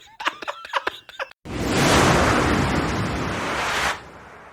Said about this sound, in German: So ein Schredder rein, ja. So ein Papierschredder.